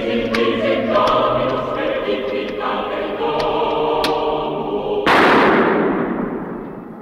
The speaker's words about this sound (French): Après ces coups de feu, le film se conclut par une scène où l'on voit le patriarche Brazé assister tranquillement à une partie de tennis avec son clan.